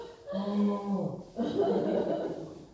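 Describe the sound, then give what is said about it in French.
A crowd of men imitates a male lion's roar in two long, drawn-out bursts, loud, with a brief break between them and a hint of chuckling mixed in. “자, 수사자 한번 소리 한번 내보세요. Et donc, criez comme des lions.”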